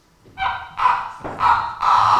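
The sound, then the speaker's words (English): Four loud, squeaky creaks like floorboards under slow footsteps, made as foley by rubbing a wet rag on wool to match a performer's footsteps in a demonstration; each drawn-out, nasal groan is close to the next in a steady rhythm, with no voices. “do some creaky floorboards for us.”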